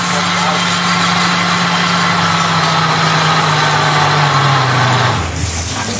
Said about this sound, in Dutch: Een blender heet zo'n ding. Een blender. En daar heb ik net asperges in gepureerd. Voor aspergesoep.